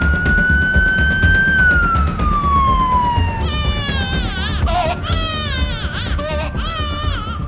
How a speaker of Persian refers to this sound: خوبه، نوزادی که گریه میکنه یعنی یه نوزاد سالمه.